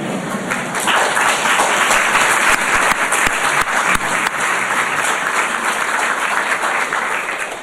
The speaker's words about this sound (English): If he hadn't done anything else, that would get him a round of applause.